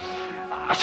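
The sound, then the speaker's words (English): A single sharp sneeze bursts out near the end, loud, over a faint steady tonal hum in the background. “Gesundheit.”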